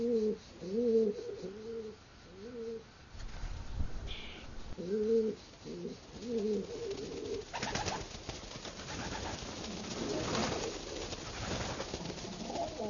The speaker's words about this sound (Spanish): Sus viejas paredes están llenas de huecos que sirven como hogar a una considerable variedad de aves.